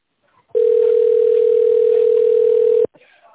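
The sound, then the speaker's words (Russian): A telephone ringback tone heard while waiting for an operator after calling Uraltest: one steady, loud, mid-pitched beep held unbroken for a little over two seconds over faint line hiss, with a brief murmur of voice just after it stops. “Если вы знаете внутренний номер сотрудника, наберите его в тоновом режиме, либо дождитесь ответа оператора.”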